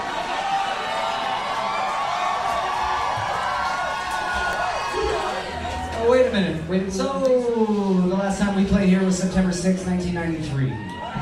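A large concert crowd roars and cheers in a dense, continuous wash of noise as the singer grabs the microphone, then individual shouts and high whoops rise above it in the second half, growing louder and more excited.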